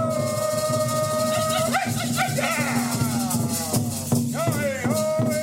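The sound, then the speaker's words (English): After the fourth start of a song sung in unison, a hard drum beat interrupts it, followed by voices rising and swooping in howling wolf calls over a dense, steady backdrop of singing or music; the drum hit does not stand out. “After the fourth start, the song is interrupted with a hard beat of the drum, followed by the wolf call.”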